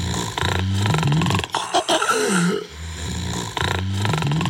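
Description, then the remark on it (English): Loud, rattling snores rumble in two long breaths, broken by a brief choking pause with gasping, irregular airflow in between, as the airway struggles to stay open, from moderate to severe obstructive sleep apnea. “This is the soundtrack of the millions undiagnosed with moderate to severe obstructive sleep apnea, or OSA, in adults with obesity.”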